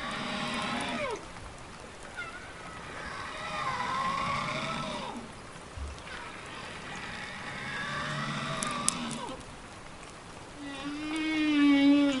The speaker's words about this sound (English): Some scientists believe that the complexity of the song actually gives information to whales that are listening, something about that singer, like maybe how big he is or something about the characteristics of the singer.